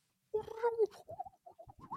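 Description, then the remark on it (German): A person's voice imitates a starling, starting with a drawn-out warbling trill and then breaking into a quick series of short chirps and squeaky whistles, fairly loud. “Und ich kann sogar die, ich kann die sogar nachmachen. Mach mal. Ja, sag mal einen Vogel. Starr.”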